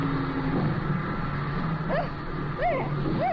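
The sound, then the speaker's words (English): A small airplane touches down on water, its engine droning steadily beneath a broad rushing wash, with a few brief wavering squeals near the end, loud throughout. “That water sure puts the brakes on the wheels.”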